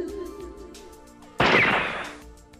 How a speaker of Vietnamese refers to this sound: Đoàng. Bỗng nhiên một tiếng súng vang lên, cắt đứt sự yên tĩnh.